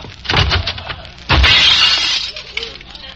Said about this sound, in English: You knocked over your Coke and broke the glass. Huh? Look at it, glass and Coke all over the counter.